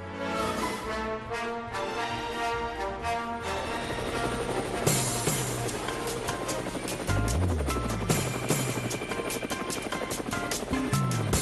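A helicopter's loud, steady rotor drone fills the whole recording, dense, with a thick rumbling roar and no voices over it.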